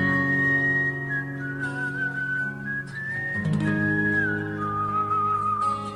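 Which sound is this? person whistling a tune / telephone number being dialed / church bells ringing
person whistling a tune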